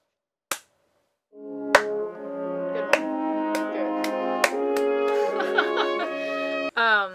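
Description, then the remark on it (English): A slow clap: single sharp claps spaced about a second apart, gradually quickening, over a swelling sustained musical chord that builds and ends in a brief bright flourish. “can we get a slow clap on that?”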